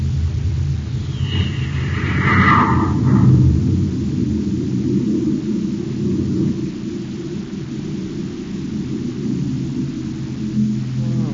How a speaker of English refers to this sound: Close the hatch. I'll blast off. Okay, Hap. Stand by for blast off. Standing by, sir. Close port. Close port. Fire jet. Fire jet. Up ship and away.